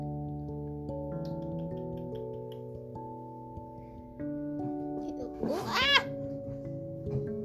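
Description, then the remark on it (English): A single drawn-out meow from a fat cat, rising then falling in pitch, sounds clearly near the end over a steady backdrop of sustained musical notes. “You fat cat!”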